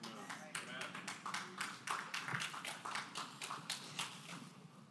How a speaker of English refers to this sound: Amen. Was that a Presbyterian clap?